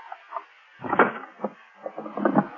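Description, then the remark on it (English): Wood creaks and knocks as a locked wooden drawer is yanked and forced open, a series of uneven thumps and rattles, with a heavier jolt near the start and clattering toward the end. “Now, why would you keep this drawer locked, Deansy, old boy? Let's just force it open.”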